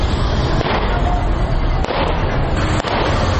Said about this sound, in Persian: شمار هم تفنگچه، کلاشینکوف و چاقو به دست گرفتند و در بخش‌های از شهر کابل شلیک‌های هوایی می‌کنند که این کار باشندگان کابل را نگران ساخته است.